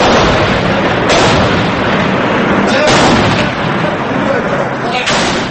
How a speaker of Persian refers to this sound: بنابر خبر دیگر، تانک های ارتش سوریه شهر حمص را هدف قرار دادند. صدای گلوله اندازی و ترکش ها در شبکه های اجتماعی پیدا شد که باور می رود از رویدادهای 10 فوریه ضبط شده اند.